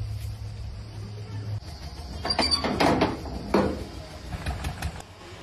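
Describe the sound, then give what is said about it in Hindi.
A door is unlatched and pulled open for someone who has come to it, with a few sharp clicks and a rattling scrape in the middle, over a low steady background hum. “दरवाजा खोलने में कितना टाइम लगता है”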